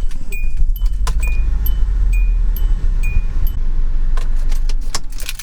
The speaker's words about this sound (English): Okay, now I think we really are going to head home. Let's start this car up.